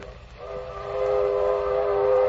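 A train horn sounds a steady, sustained chord that swells in and holds, layered over the low rumble of a freight train rolling along the tracks.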